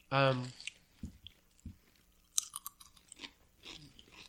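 Crunching of a crisp baked corn chip made of potato, corn and wheat starch, a burst of brittle bites and chews after a short vocal sound at the start, then quieter munching trailing off.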